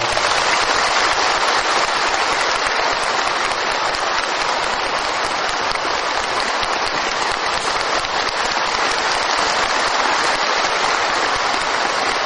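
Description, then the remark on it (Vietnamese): A large crowd of Buddhist followers claps steadily and densely for about twelve seconds in gratitude to a venerable monk, a loud, even wash of applause with no voices and no clear build or fade. “Để tỏ lòng tri ân, xin các Phật tử cho một tràng pháo tay.”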